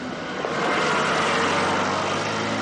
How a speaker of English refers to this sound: At rush hour, a block from the usually sleepy Broadway intersection, cranes and dump trucks carve at the heart of downtown Gary, Indiana, a city of around 100,000 people with one of the country's highest crime rates and lowest standards of living.